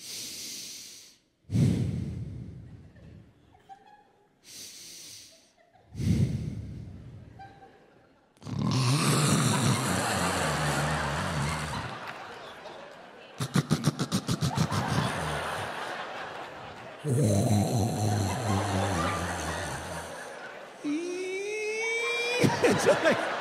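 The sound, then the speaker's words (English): A voice imitates a wife's loud snoring: a series of rough, rattling inhale snorts and breathy exhales, building from short bursts into long, grinding snores, forceful, with no talking. “this woman can throw down some snoring. I'm not talking little kitten purring. I'm talking Night of the Walking Dead.”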